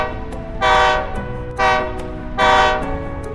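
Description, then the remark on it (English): Three loud, rising train horn blasts sound in steady succession over the continuous rumble of a train rolling along the tracks. “I see a train.”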